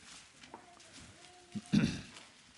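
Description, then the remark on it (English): Many Bible pages turn at once as people look up Genesis chapter 10, a soft, continuous papery rustle with a faint steady tone underneath, swelling into a brief louder rustle near the end. “Good to hear all those pages turning.”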